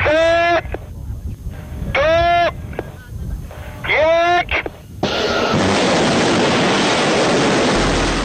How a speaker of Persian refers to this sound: شلیک موشک‌هایی برای هدف قرار دادن اسرائیل.